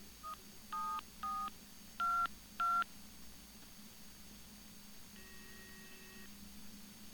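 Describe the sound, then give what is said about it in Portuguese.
Five short telephone keypad tones dialed in quick, uneven succession, followed by a longer steady ringing tone, all over a faint low hum with no one speaking. “Aí eu vi o telefone, e por acidente, assim, meio por acidente, não tem? Daí eu olhei pro telefone.”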